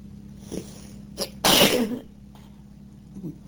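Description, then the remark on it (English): A single sharp, loud sneeze, preceded by a quick breathy intake, with a steady low hum in the background and no talking. “I'm beginning to sneeze.”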